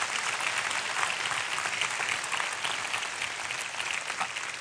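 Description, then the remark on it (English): Sustained applause from a large church audience giving the Lord a hand clap, a dense, steady wash of many hands clapping at once with no voices standing out. “Can we give the Lord a hand clap?”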